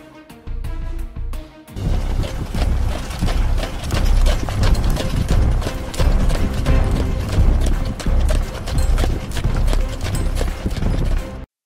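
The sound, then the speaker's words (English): Heavy Clydesdale horse hooves clip-clop in a steady, continuous rhythm, loud, with a brief pause near the start before the hoofbeats carry on. No one speaks. “Clydesdale horses are in fifth place. Bred in Scotland, the Clydesdale horse is known throughout the world for its beautiful leg coloration.”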